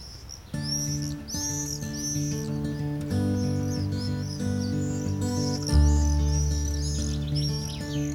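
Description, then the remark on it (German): Birds call and chirp repeatedly in quick, overlapping bursts, bright, in a marsh in the Netherlands, over a steady bed of sustained music with slow chord changes. “Und während die Niederländer noch überlegen, was sie damit nun anstellen sollen, entdecken Vögel den Morast.”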